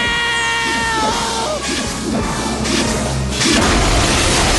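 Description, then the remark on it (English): A loud, chaotic crash as a mirror crashes into a flying machine, with bursts of shattering mirrored glass tumbling over a whining, wavering tone, the smashing noise swelling and continuing to the end. “It crashes into the flying machine, sending flakes of mirrored glass cascading down, intermingling with the falling snow.”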